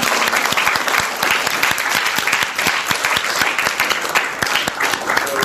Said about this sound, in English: We should give a round of applause to our parents.